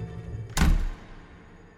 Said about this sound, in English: And then we ran out of the room and shut the door.